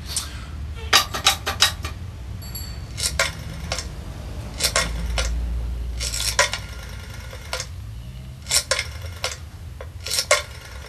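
Quarter coins clink and rattle into a payphone slot, about a dozen sharp metallic drops at irregular intervals, over a faint low rumble.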